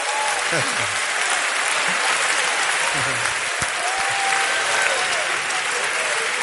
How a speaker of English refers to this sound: Clap for God, clap for God, clap for God. Acclamez Dieu.